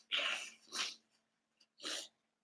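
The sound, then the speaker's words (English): Someone with allergies blows their nose in three loud, breathy bursts: a long one, a shorter one right after, then a final burst after a brief pause. No talking. “Every time I start these things, I always, it must be something here that's triggering my allergies. Because like I wasn't blowing my nose, you know, 20 minutes ago.”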